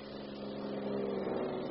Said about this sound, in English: The police car is slowing